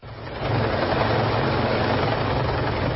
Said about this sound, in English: 10 helicopters and hundreds of search and rescue personnel deployed to help save from danger the last of 174 passengers trapped in cable cars high above a mountain in Turkey.